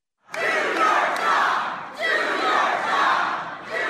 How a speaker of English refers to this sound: Do your job, they're shouting. This is a town hall for Republican Congressman Jason Chaffetz, chairman of the House Oversight Committee. The job the crowd wanted him to do was to investigate the president for potential conflicts of interest.